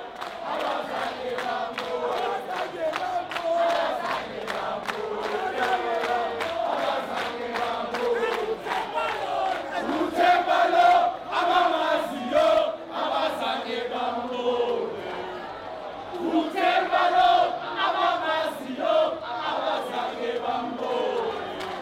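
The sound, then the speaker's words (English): A cricket crowd sings a rhythmic chant together about Temba Bavuma ("This is Temba, for those who know"), a dense, steady wash of many voices with repeated accented beats and swelling phrases, loud and continuous throughout. “While someone sings, "This is Temba, for those who know."”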